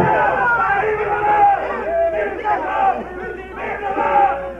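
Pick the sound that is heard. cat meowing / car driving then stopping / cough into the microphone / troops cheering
troops cheering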